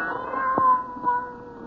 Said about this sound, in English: Then the silence was broken by the faint crying of one cat. The crying grew louder and louder.